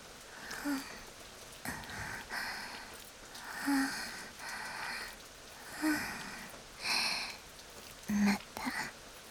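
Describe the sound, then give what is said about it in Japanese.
Steady rain hisses softly throughout, a constant wash of patter, while breathy exhales and sniff-like sounds come and go in short bursts above it. “私に聞かせて。雨音よりも一番近い私にだけ。”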